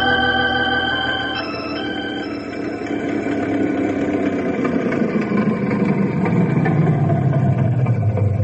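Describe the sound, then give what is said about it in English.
An old Model A car engine runs steadily, a loud rumbling idle with whining tones that slowly drop in pitch toward the end. No one speaks. “Your old Model A sounds good as new.”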